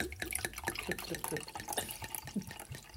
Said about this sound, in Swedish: Jag är så fräck så jag häller upp till mig själv här nu först.